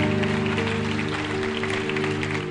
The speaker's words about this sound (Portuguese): Para aplaudir o Senhor.